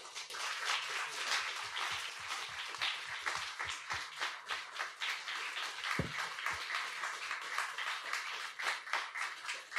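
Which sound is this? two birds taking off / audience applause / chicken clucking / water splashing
audience applause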